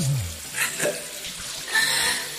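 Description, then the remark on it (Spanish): Running water splashes and hisses steadily, like a shower spraying, with brief surges and a low murmur underneath; no one speaks. “Tantas mañanas ensayándola en la ducha, como vamos a escuchar ahí. A ver cómo es la ducha, a ver.”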